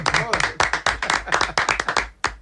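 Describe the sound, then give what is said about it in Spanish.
An audience breaks into applause, a dense, irregular patter of claps at steady loudness for a couple of seconds, with a brief voice heard at the very start. “Oye, no hay un aplauso para”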